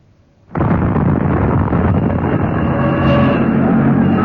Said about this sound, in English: That's the main post office, I think. Probably it was a gas main explosion down below. I'm not surprised.